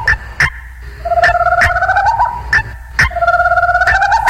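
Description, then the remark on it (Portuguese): A guinea fowl calls with sharp, harsh bursts repeated in a steady, rapid rhythm, interleaved with rising whistle-like tones; loud, with no one talking. “É a nova onda da coruja e da cocá, chama a coruja.”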